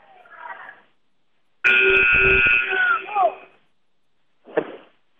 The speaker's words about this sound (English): That buzzer means we'll have a sub.